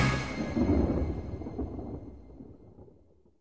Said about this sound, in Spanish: Y hubo relámpagos, voces, truenos, un terremoto y una gran granizada.